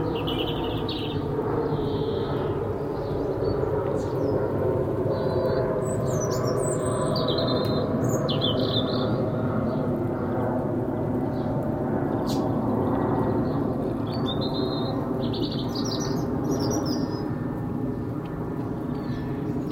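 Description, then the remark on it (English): Birds chirp and sing in scattered bursts throughout, fairly faint, over a constant low engine-like rumble that fills the background. “Trains and birds and planes. No, it's not, it's boats, isn't it? Well, I'm having birds.”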